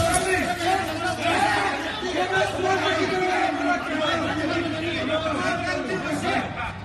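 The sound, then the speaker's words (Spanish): A dense, loud crowd of many overlapping voices chatters, shouts and fights without pause, a steady rowdy hubbub of nighttime street noise spilling from the doors of bars in the Las Canteras neighbourhood of Las Palmas de Gran Canaria. “Peleas, gritos, ruidos, ya lo has escuchado, muchísimo follón que sale por la puerta de los locales”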